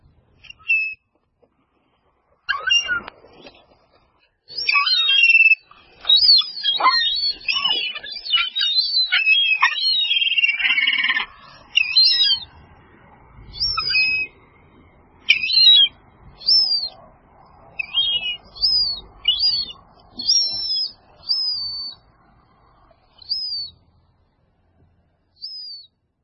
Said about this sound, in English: We'll also be listening to some of the gorgeous sounds of Penobscot Bay, from stormy waves to the calmest rippling waters to the most raucous seagulls, and some that are chirping so much that you wouldn't even think there are seagulls.